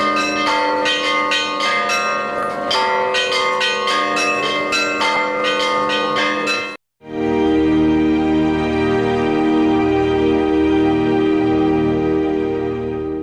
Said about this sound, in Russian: каждый желающий, начиная с этой ночи и всю предстоящую неделю, может зайти на колокольню и порадовать всех радостным трезвоном.